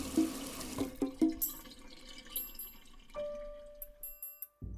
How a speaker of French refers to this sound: Pendant votre vaisselle, le robinet coule à flot.